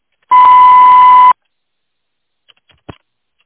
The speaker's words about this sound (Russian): Мой абонент не отвечает. Звонок был перенаправлен на голосовой почтовый ящик. Вы можете оставить сообщение после звукового сигнала.